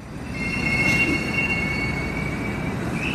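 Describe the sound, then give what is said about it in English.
A metro train rumbles steadily through Gorky Park station in Russia, its wheels squealing in a long, high-pitched whine over the low, continuous roar of the carriages. “I get off the metro at Gorky Park, and I'm struck by the decorations.”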